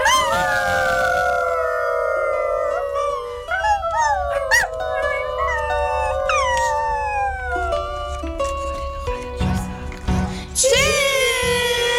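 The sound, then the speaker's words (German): Several dogs howl together in a loud, sustained chorus, their long wavering tones rising and sliding over one another, with occasional yips breaking through near the end. “Wussten Sie, dass Hunde Musik machen?”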